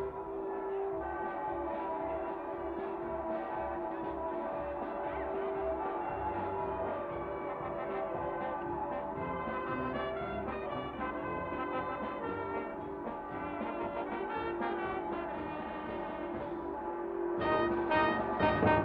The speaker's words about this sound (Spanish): El sonido lo encuentro raro. Hay dos campanas en la torre, pero esto que suena Miro hacia arriba y veo unos altavoces por los que sale el mismísimo Vaticano. ¿Y para qué quieren las campanas?, me pregunto yo.